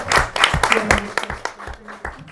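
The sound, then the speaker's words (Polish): An audience applauds with a dense burst of clapping, many hands at once in a steady, fairly loud patter that thins out toward the end, welcoming a poet to a poetry reading. “Brawa, brawa, brawa, brawa.”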